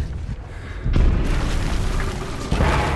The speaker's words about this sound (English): The cell phone sets off the bomb, killing the soldier trying to destroy it.